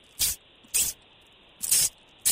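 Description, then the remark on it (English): A voice imitates Aqua Net aerosol hairspray spraying with four short, sharp hissing bursts, fairly loud, separated by brief pauses with a slightly uneven rhythm. “I'm always looking for an excuse to do my Aquanet impression.”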